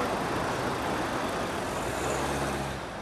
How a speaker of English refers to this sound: rows of honking traffic idle beside it, as one resident complains. This isn't getting fixed. There are too many cars. Mucho coche.